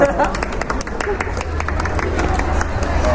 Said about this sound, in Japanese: 那就鼓掌通过。